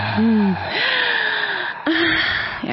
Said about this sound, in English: Oh, we can do some real heavy breathing here, baby.